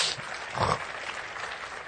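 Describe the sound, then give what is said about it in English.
A crowd claps steadily throughout, a dense, continuous patter of many hands at moderate volume, swelling briefly near the middle before settling back to an even roar. “Give him a good clap offer.”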